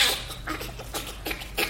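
Bonobo laughter: a quick series of breathy, high-pitched panting bursts in an irregular rhythm, fairly soft, with no talking.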